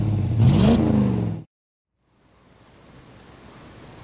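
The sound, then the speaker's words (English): The engine of a small, cramped vehicle revs up loudly as it is driven into forward motion, its droning pitch climbing for about a second and a half before cutting off sharply. After a short silence, a soft, steady rushing hiss fades in. “But he finally shrugged his shoulders and crashed the small cramped wag into forward motion.”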